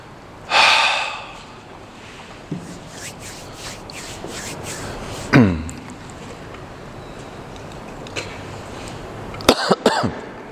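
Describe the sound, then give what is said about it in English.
Several coughs from a speaker at a PA system microphone: a heavy, breathy one at the start, another a few seconds later, then a quick cluster of short coughs near the end, with quiet breathing between. “I'm trying to not cough into the PA system.”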